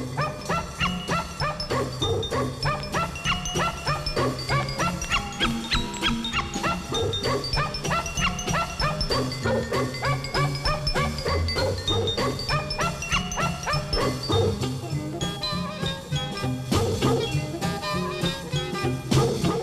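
Dogs bark and yip over and over in a lively, rhythmic stream, loud, layered over a dense tonal backing that runs steadily for the whole stretch without any talking.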